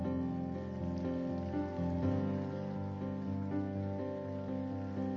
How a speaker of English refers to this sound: Come on, let's stand up right now. Lift your hands to heaven. If this sermon's meant anything to you, give God a clap offering of praise.